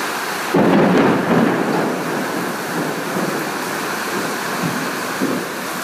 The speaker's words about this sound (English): And I know that we get so much rain in Ireland that this isn't unusual, but the scale of this and the strength of this rain is.